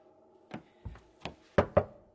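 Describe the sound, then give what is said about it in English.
Six dull knocks on a padded door, spaced unevenly, the later ones louder and firmer, over a faint steady background hum. No one speaks. “Oh, these padded doors are such a pest.”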